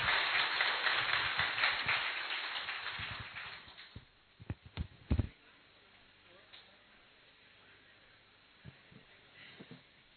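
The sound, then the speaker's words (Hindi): An audience claps loudly for themselves in a dense burst of applause that gradually fades over about four seconds, followed by a few scattered last claps and then quiet. “चलिए जोरदार ताली बजाएंगे अपने लिए, बैठ जाएंगे।”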